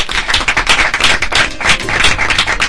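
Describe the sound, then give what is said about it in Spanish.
A crowd applauds steadily, many hands clapping in a dense, crackling wash that holds at an even, fairly loud level for the whole stretch, with no voices. “Si os pido que por favor le demos un aplauso para él.”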